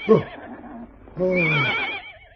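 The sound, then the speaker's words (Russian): A horse hitched to a heavy cart that will not budge whinnies: a short breathy burst, then a longer quavering neigh with a trembling high pitch that trails off, with no one speaking. “Лошадь не с места, тяжело.”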